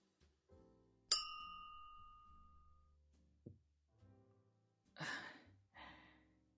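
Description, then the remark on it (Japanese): A single bright clink of drinking glasses touching in a toast at a restaurant, celebrating a junior colleague's debut as a teacher. Its clear ringing tone fades slowly, followed later by a couple of soft breathy exhales, as after a satisfied sip. “後輩ちゃんの教師デビューに乾杯。”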